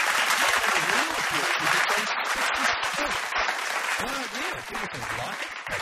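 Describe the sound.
Canned applause sound effect: a dense, steady wash of clapping that holds at an even, loud level for nearly six seconds, with voices talking over it.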